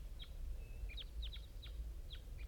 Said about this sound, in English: Here come the wild birds. Flock of 5.